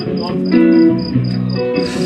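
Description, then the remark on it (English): Crickets chirp in a quick, steady series of high-pitched pulses, about eight in two seconds, sitting above a louder, lower voice or tonal music. “Beep, beep, beep, beep, beep, beep, beep, beep, crickets.”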